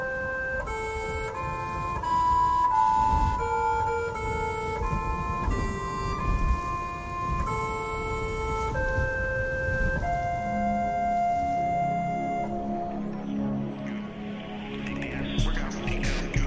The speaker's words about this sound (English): Even though Curiosity was millions of miles away and couldn't blow out the candle on its cake, the rover was able to sing the birthday song, harmonizing with the gusting wind to create the first melody ever to ring out on Mars.